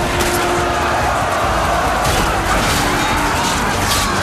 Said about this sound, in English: A few gunshots fly, then the sides engage in hand-to-hand combat. Bayonets jab warriors, samurai blades slice riflemen.